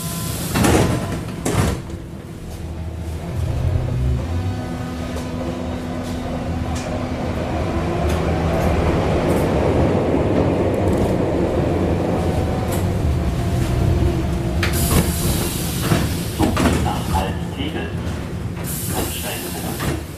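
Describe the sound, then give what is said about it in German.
A subway train ride with a steady low rumble and rattling, a muffled, hard-to-make-out station announcement, and the hiss and thud of sliding doors near the end. “Falls jemand den Eindruck hatte, dass man in der U-Bahn gerade die Stationen nicht verstanden hat, dann lag das nicht an der schlechten Aufnahmequalität, sondern man versteht sie tatsächlich nicht.”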